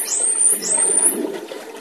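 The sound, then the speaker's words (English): Two high, thin whistles from the dolphin Bella and her calf sweep upward one after another, each lasting about half a second, over a steady rushing, bubbling underwater noise that continues after they stop. “That's her and her calf in the background.”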